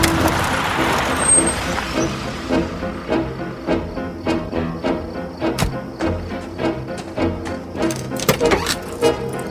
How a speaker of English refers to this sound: A car passes on the road behind her and comes to a stop at a dumpster.